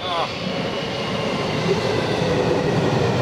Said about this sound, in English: And I can hear a train coming. This is getting a bit close. No, this is no good. Go back.